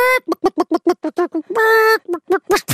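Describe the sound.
A person imitates a hen: a quick run of short, voiced clucks, then a drawn-out squawk, then a few more clucks rising in pitch, loud.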